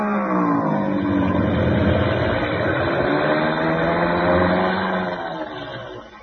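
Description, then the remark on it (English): A propeller plane engine, which has been acting up, drones loudly and steadily as the plane comes in fast to land, its pitch shifting slightly before the roar eases off in the final second. “Well, we'll know in a minute because he's coming in fast.”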